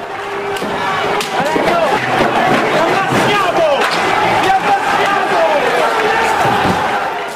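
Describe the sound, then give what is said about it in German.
Loud, dense crowd noise from a violent street protest at Piazza del Popolo in Rome as heavily armored police vehicles arrive, with many voices yelling at once and one protester's shout rising above the roar. The chaotic clamor stays steady throughout, with scattered thuds and bangs. “Bringen wir sie um, schreit ein Demonstrant, als schwer gepanzerte Polizeifahrzeuge an der Piazza del Popolo in Rom auftauchen.”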